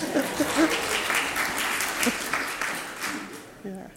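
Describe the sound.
A church audience applauding together after an announcement that the heating is now in good working order, a steady dense patter of many hands clapping throughout, fading slightly toward the end as a voice begins to speak.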